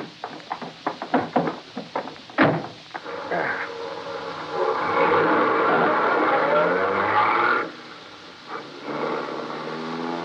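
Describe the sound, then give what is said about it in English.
A few sharp clicks and a thump, then the engine of a Rolls-Royce town car waiting at the curb rises into a steady roar as it pulls away, cutting off abruptly before a quieter rumble returns briefly. “A Rolls-Royce town car waited at the curb.”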